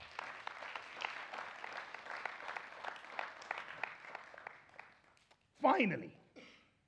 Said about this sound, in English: Will you give him a round of applause?